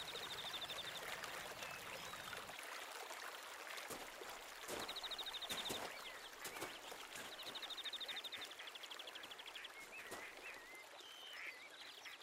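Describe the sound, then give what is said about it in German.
A small brook flowing through a meadow burbles and trickles steadily throughout, while a bird's high, rapid trill repeats a few times over the flowing water. “Der kleine Bach fließt weiter durch die Wiese hindurch und er findet seinen Weg hinein in einen schönen See, der mitten in der Wiese liegt.”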